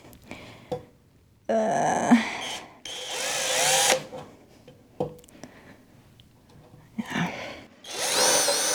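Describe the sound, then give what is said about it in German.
A power drill whirs in several loud bursts, starting and stopping with short pauses between runs, its motor pitch rising and straining as it bores. “Und das denke ich mir tatsächlich auch gerade so beim Bohren.”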